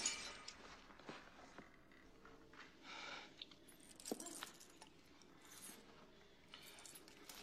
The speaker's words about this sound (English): The mirror vibrates and shatters. Everyone flies out into the hallway.